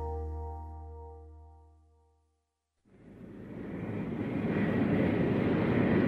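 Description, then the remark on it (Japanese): A steady, low engine drone of a single-occupant airplane that makes a forced landing in the Sahara Desert fades away over two seconds into brief silence, then a broad rushing noise, like strong wind, swells up and holds loud to the end. “ちょうど6年前のある夜、僕の操縦する飛行機がサハラ砂漠に不時着した。”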